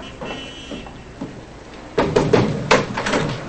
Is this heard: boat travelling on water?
no